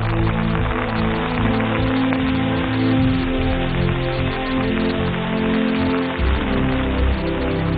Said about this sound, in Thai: มันเป็นฝนที่เกิดขึ้นกลางอุทยานแห่งชาติเขาใหญ่ค่ะตามหลักแล้วหยาดฝนที่โปรยปรายณที่แห่งนี้จะเดินทางไกลหลายร้อยกิโลเมตรจนถึงปลายน้ำไปยังอ่าวไทย